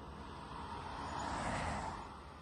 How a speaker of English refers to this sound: You have a motorcycle? Yes, I have a motorcycle.